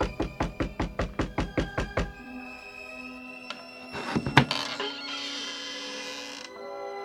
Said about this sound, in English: He went in that house, just as the master said he would. Quick, knock.